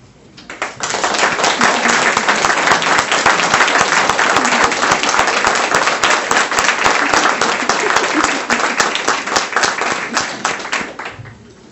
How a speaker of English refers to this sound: So if you're here this evening with one of our FADA scholars, we would like for you to stand so we could also acknowledge and applaud you tonight as well.